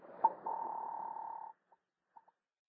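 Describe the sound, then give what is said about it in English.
A telephone being dialed to call a doctor: a brief clunk, a steady humming tone for about a second, then a few short, sparse beeps, with no one talking. “I grabbed the telephone.”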